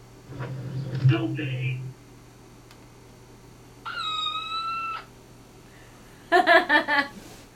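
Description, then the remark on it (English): A kitten sound effect: a kitten meows several times in high, thin cries. A drawn-out mew comes first, then a steadier one, and finally a quick, choppy burst of squeaks, fairly loud over a low background hum. “I'm taking over the podcast, and all sound effects will be kittens.”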